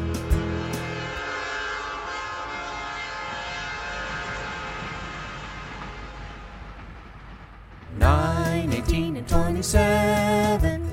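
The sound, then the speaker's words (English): A train horn blows in long, sustained tones over the low rumble of a passing train, then sharper, brighter horn blasts sound loud near the end. “90 and the train rides over. Nines come blow your horn.”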